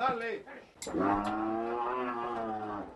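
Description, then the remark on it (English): Cattle of a herd of Holstein, Angus and Brahman on Roger Vacadillas' dairy ranch in Santa Cruz moo: a short low call, then a loud, long drawn-out moo that holds steady for about two seconds before fading. No one speaks. “A cattle breeder, Vacadillas surveys his herd of Holstein, Angus, and Brahman.”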